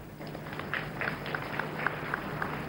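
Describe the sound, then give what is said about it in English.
An audience claps together for a volunteer who has come forward to help with a demonstration, in a soft, steady patter, with brighter individual claps landing at a regular pace over a hiss of crowd noise. Nobody speaks. “Let's clap for him.”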